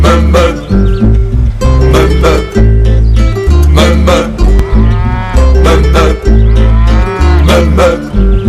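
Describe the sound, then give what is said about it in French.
Several cows moo loudly, one long drawn-out call after another with hardly a pause, their lowing overlapping into a steady chorus while a bird chirps faintly now and then. “les vaches dans les prés, il faut les voir de loin.”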